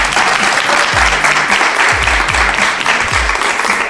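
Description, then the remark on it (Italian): Steady, dense studio applause at Radio Dinamo from the group Genitori 2, a continuous crackle of many hands clapping at full volume for several seconds, with a few heavier low thumps scattered through it. “Facciamoci un applauso.”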